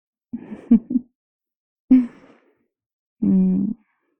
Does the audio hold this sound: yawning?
yes